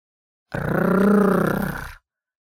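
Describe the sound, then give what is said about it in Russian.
A single loud tiger roar lasting about a second and a half, deep and rumbling with a harsh, growling texture, swelling and then fading out against silence. “«Обед сам пришел ко мне», — услышал зайчонок и увидел тигра.”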